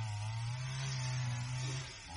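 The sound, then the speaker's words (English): A chainsaw drones steadily as a tree is cut down, its engine holding one buzzing pitch throughout before easing off slightly near the end, with no voices present. “No, that's a chainsaw. Oh, what? They're cutting down a tree.”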